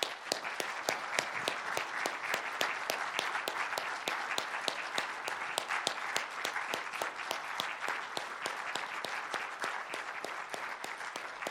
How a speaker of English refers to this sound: We would like to honor you right now. So if you could just stand up, and we're going to do two things. We're going to clap and we're going to pray. So if you served in the armed forces, would you just stand up? Thank you for your service.